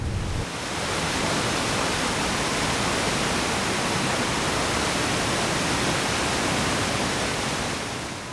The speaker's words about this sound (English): We're gonna walk to the river. You'll get to see the treated water go into the river.